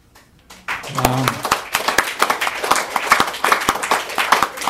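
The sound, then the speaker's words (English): An audience at a poetry reading breaks into applause after a quiet start: dense, irregular clapping that swells quickly and stays steady and fairly loud, with a brief low voice murmur early on. “Don't clap, because I'm going to read a few poems.”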